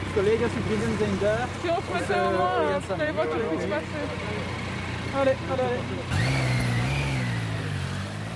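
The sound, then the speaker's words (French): Steady city traffic hums throughout at the Schuman roundabout in Brussels, with passing cars and an engine revving up loudly toward the end, while indistinct voices murmur in the background; activists with placards partially block the traffic. “des militants affublés de pancartes viennent s'installer sur les grands axes du rond-point Schuman à Bruxelles pour bloquer partiellement la circulation”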